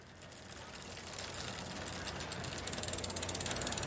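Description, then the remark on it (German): A bicycle freewheel ticks as the rider rolls through Zürich after work, coming from Kasernenstraße. There is a rapid, steady stream of clicks that grow louder and slightly faster toward the end, set against a constant broad hiss of background noise. “Das Fahrrad unter mir, die Stadt noch laut.”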